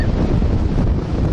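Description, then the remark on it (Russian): Loud, continuous wind buffeting the microphone, a dense low rumble that roars steadily with no pauses, with a hint of surf beneath it and no voices. “Я сейчас прикрою своим телом от ветра.”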